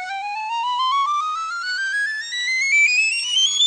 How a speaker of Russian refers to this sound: Второй инструмент – флейта пикколо.